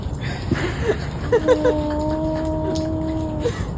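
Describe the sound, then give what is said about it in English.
A dog playing in snow for the first time gives a few short, high yips, then a long, steady whine that holds one pitch for about two seconds over a soft background rustle. “It's a dog that is experiencing snow for the first time.”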